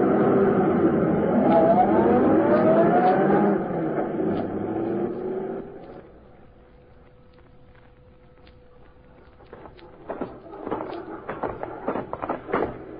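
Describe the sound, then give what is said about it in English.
A car engine roars and revs with a rising whine, then fades away to a low hum within a few seconds, followed by a scatter of sharp clicks and knocks. “Get this car out of here.”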